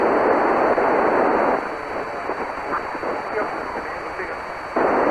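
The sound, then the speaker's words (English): Steady shortwave amateur radio hiss fills the whole stretch, with a faint, garbled voice transmission from a station trying to get through buried in the static, too weak to make out, the noise dipping briefly in the middle. “I hear somebody trying, but I'm not getting enough audio out of you.”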